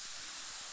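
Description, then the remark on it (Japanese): A soft, steady fizzing hiss, like a bubbling liquid, sounds continuous for under a second, with no voices. “シュワシュワ”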